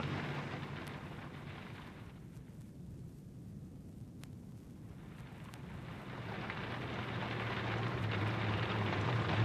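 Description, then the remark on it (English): Heavy rain from a thunderstorm with lightning pours in a dense, steady hiss with a low rumble beneath, thinning briefly partway through before swelling back louder toward the end. No one speaks. “You'd better put the window up, Sir Graham. No. By Timothy, it's certainly coming down.”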